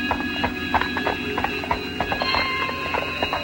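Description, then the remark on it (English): Two men lead their horses through a deserted alley inside castle gates; hooves clop steadily on a hard surface as they walk, an uneven patter of knocks over a faint sustained tonal hum, with no voices. “Inside the gates, they lead their horses through a deserted alley.”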